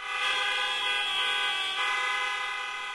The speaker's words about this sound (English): Well, when it comes to honking, New York is making a U-turn. City officials are removing hundreds of "don't honk" signs from the streets.